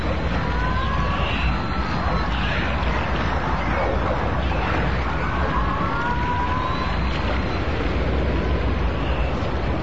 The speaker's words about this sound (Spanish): Y esto que estamos escuchando de fondo es el sonido auténtico de los delfines. Vamos a escuchar un poquito más alto.